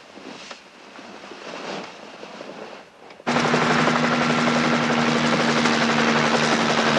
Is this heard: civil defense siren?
no